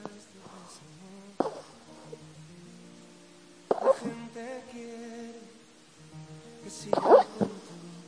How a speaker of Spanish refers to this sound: Y para que te hagas una idea, yo hasta que no lo vi y no lo grabé, no lo podía creer. Transmiten tantos tus canciones, no lo puedo creer, que hasta haces que los perros en sueños te canten y te acompañen.